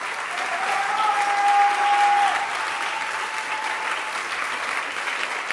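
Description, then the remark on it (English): An audience claps steadily, a dense wash of many hands filling the whole stretch at a fairly even loudness, with a faint sustained tone running underneath. “Oh, you won't clap your hands.”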